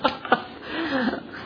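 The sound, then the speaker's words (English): Two quick, harsh coughs during a Bible teaching on Hebrews, followed by a strained, drawn-out throaty sound as someone tries to recover from a brief coughing fit. “Coughing spell.”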